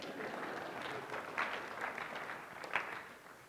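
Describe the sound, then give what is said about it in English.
An audience applauds steadily for a few seconds, a dense wash of many hands clapping at moderate volume with a couple of sharper claps standing out before it starts to fade. “I think that deserves a hand clap.”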